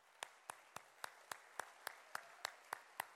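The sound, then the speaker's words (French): Steady rhythmic clapping, about a dozen sharp claps at an even, fairly quick beat, as an audience claps in unison to applaud the event's organisers and those who look after the children; no voices are heard. “Merci pour ceux qui s'occupent des enfants, pour toute l'organisation, je vous propose qu'on les applaudisse, merci beaucoup.”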